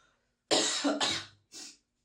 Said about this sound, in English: Oh, man. We're not editing any of these coughs out. You can just suffer.